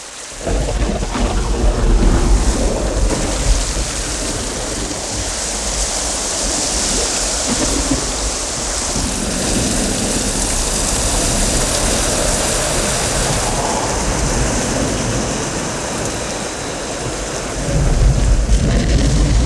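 Heavy rain pours down steadily in a dense, hissing wash, with deep rumbles of thunder rolling underneath and swelling louder near the start and end. No voices.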